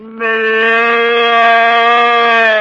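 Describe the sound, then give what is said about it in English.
A human voice imitates the bleat of a calf lost from the herd, one long, steady, nasal call held for over two seconds at a fairly high pitch, loud and alone with no talking. “I do what the calf does when lost from the herd.”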